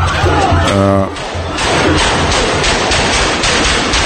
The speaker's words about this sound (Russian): Вот, и вот он поворачивается спиной, и сейчас в кадре пистолет появляется с рукой. Смотрите. 16 выстрелов.